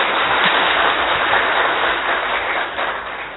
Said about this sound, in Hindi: हम बहुत करतल ध्वनि से आपका स्वागत करते हैं। थोड़ी अच्छी से ताली बजाइए।